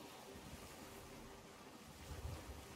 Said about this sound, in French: Bon, attention, on va aller dans une tempête par contre. Je m'attendais pas à ça.